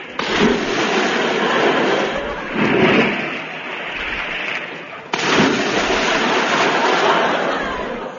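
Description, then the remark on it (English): Six heavy splashes of bodies falling into water follow one another, loud, each a dull thump swelling into a rushing spray of churning water, with no voices. The first is Moriarty, the other five Mr. Seacombe. “The first splash was Moriarty.”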